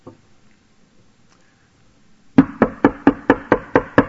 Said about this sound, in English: Knock on the door. It was a baker.